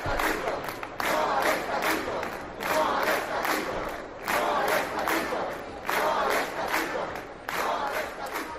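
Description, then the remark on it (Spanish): A crowd of doctors protesting against the Ministry of Health's proposed new framework statute regulating their profession chants in loud, rhythmic bursts, many voices shouting together in repeated phrases roughly every second or two, with a steady roar of voices between the chants. “Esto que acabas de escuchar es uno de los sonidos del día, el de los médicos manifestándose contra la propuesta del nuevo estatuto marco del Ministerio de Sanidad que pretende regular su profesión.”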